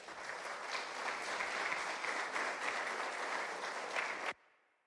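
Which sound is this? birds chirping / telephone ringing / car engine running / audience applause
audience applause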